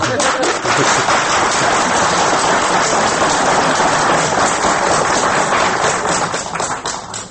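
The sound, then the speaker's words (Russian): A studio audience applauds in Studio 22 of Radio Svoboda in Munich, an archive recording from 10 April 1977; a dense, steady wash of many hands clapping, loud and unbroken for about seven seconds before thinning slightly at the very end. No voices stand out. “Аплодисменты в 22-й студии «Радио Свобода» в Мюнхене.”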